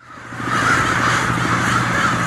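A dense, continuous chorus of more than 10,000 crows cawing at once in downtown Nampa, Idaho, in winter, harsh overlapping calls blending into a loud, steady roar of cawing with no pauses and no voices.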